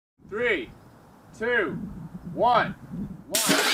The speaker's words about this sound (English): 3, 2, 1, 1. You're listening to a drone launch.